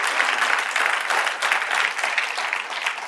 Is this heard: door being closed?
no